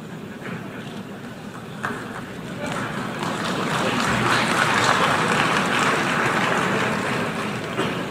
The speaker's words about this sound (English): By the way, listen to that crowd response. Listen to that tepid response when Donald Trump calls out socialism.